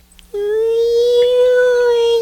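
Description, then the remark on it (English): A voice imitates the song of a flying, singing astral sea manta ray with one long, steady, loud crooning note that rises slightly in pitch and holds for about two seconds, rich in harmonics, with no other talk. “No, these are flying, singing astral sea manta rays. You've never seen them before, so that's how they sound.”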